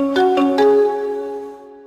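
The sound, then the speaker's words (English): The Intel sonic logo: an opening audio sparkle built from more than 20 sounds, including a tambourine, an anvil, an electric spark and a hammer on a pipe, then four notes mixing xylophone, marimba and bells, ending in a sustained ringing chord that slowly fades. No one speaks. “The four notes that follow are a mix of xylophone, marimba, bells, and other sounds.”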